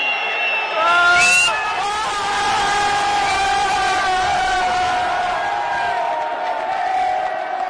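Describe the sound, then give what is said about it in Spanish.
A large stadium crowd at a Zaragoza versus Deportivo football match chants "rigged match" in Spanish in unison, a loud, sustained wall of voices holding drawn-out syllables, with a brief burst of extra shouting near the start. “Partido amañado, gritaban.”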